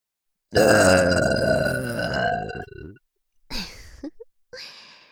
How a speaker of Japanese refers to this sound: お兄さんはどっちのゲップが好き？ 同時に出して比較してもらいましょう。いきますよ。 せーの。